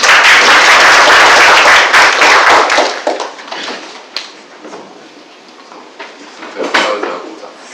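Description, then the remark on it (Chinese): A burst of dense audience applause at a committee meeting, for representatives who have just arrived, loud and steady for about three seconds, then thinning out into scattered, fading claps with a few stray taps and shuffles. “那我就给他鼓掌。”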